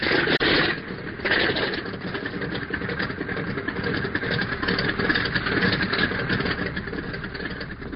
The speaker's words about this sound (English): Then you, two other students, and the teacher climb into a small airplane. The pilot makes sure everyone is sitting down and that no one else is outside near the plane. The plane's engine starts.